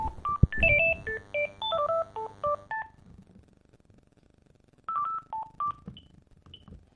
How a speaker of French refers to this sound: Le téléphone sonne.